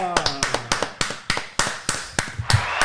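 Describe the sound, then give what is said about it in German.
Sparse applause from what sounds like only a few people, congratulating the winner of a Kicktipp prediction-game autumn championship: sharp, separate claps at a steady, fairly quick pace, with a brief murmur of voice at the start. “Da kommt auch nochmal der Applaus”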